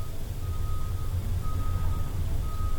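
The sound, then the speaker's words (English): A steady, deep engine rumble from trucks idles or passes in the background, with a thin, high tone that cuts in and out above it. No one speaks. “There's the trucks in the background again.”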